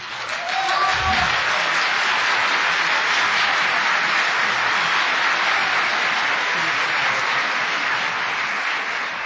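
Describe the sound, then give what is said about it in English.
A crowd claps steadily for about nine seconds for an organist's performance on a three-manual Rogers organ, a dense, even wash of applause at a consistent loud level, with a brief low murmur near the start. “I think if nothing else, we need to give his feet a round of applause.”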